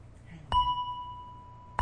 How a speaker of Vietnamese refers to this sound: Cho nên trước khi mình thỉnh vang lên một tiếng thì mình phải thức cái chuông để nó rung chuyển. Một cái loại kim khí này nó có cái chuyển động, để khi đó mình thỉnh một tiếng mạnh nó không bể.